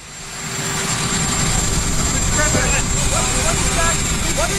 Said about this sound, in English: But it has one audio file on it, which is helicopter sound.